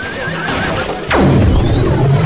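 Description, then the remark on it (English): A horse lets out a loud whinny that starts high and shrill, then slides down into a long, wavering neigh that trails off. “Now you got it straight from the horse's mouth. Give me back to my stall.”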